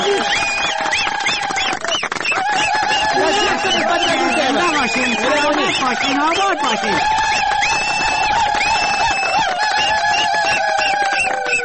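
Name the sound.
audience applause and cheering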